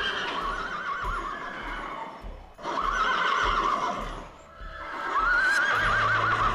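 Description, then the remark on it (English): Horses whinny in three long, wavering, high-pitched bursts while hooves clip-clop in a steady trot underneath, with the rumble of carriage wheels running throughout. “Driver, do not spare the horses.”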